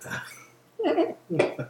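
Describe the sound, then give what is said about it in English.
A person voicing hyenas attempts a hyena call but it comes out as goat-like bleats: a short opening cry, then two louder, wavering, throaty bursts. “Still sounds like a goat. It does sound like a goat. I can't do a hyena.”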